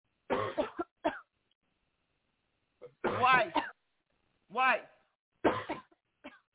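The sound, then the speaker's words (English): Several harsh coughs come in clustered bursts with short pauses between, some rough and voiced, others brief and sharp, rising loud against an otherwise silent background. “Why can't I hear you coughing?”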